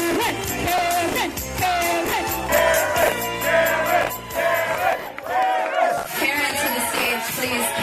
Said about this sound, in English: After her friends belted out a few off-key karaoke standards, they and the crowd began to beg for Karen.